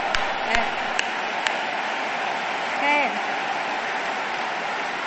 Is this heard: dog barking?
no